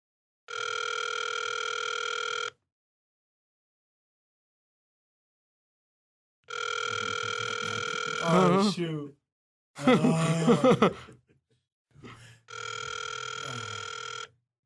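A telephone's steady ringing tone sounds in three long bursts with pauses between as a call is placed, and a person groans and sighs briefly between the later rings.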